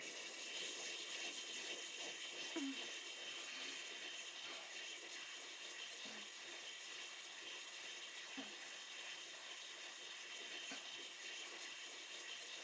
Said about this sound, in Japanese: それが、このハンドミキサーだ。ミルクフォーマーでも代用可能だが、攪拌、かき混ぜる勢いならさらに軍配が上がる。ほら、スイッチを入れるから、よく聞いてみてくれ。